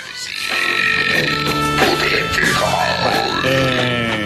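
loud burp

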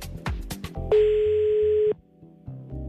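phone call ringing tone

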